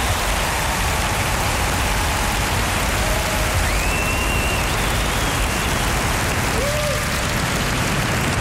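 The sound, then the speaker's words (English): A crowd applauds musical director Greg Pillengaines and his orchestra, many hands clapping in a dense, even roar that holds at the same loudness for the whole stretch, with no one speaking over it. “Give a round of applause for Greg Pillengaines and his wonderful orchestra.”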